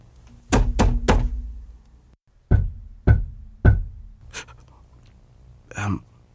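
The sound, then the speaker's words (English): Heavy, dull stomps on a cement slab basement floor: a quick burst of three thuds, a pause, then three more evenly spaced, followed by fainter scuffs and a soft breathy noise. “I'm going to try to stomp to see what happens.”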